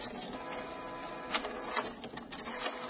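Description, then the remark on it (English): An inkjet printer whirs and chatters steadily, its mechanical buzz punctuated by a few sharper clicks and shuttling bursts, with no voices present. “Tired of replacing expensive inkjet printer cartridges? Maybe it's time to replace the printer.”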